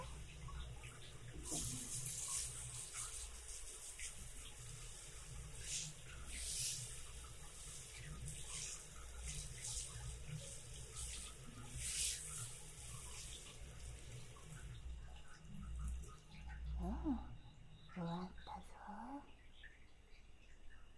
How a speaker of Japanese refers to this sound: ほれ、万歳。うん、脇もちゃんと流さんと、上がった後ぬるぬるするからね。次は背中も流していくぞ。